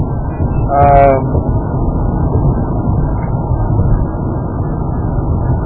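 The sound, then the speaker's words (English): A steady, loud rumble of a car on a small road fills the whole recording, with a brief horn-like toot near the beginning. “There's actually quite a bit of traffic on this little road that really goes between two places that doesn't connect up particularly.”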